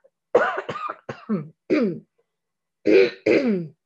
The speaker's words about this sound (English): Of course, my voice is working fine. Till I have to talk, and now I'm coughing.